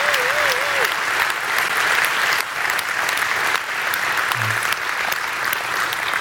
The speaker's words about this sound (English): Can we just express gratitude and thanks? Would you guys just give them a round of applause for taking this risk? This is really cool.